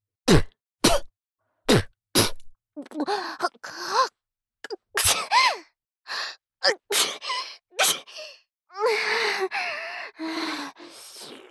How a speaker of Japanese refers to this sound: 私も薬飲んでないからくしゃみ出そう。 鼻やば。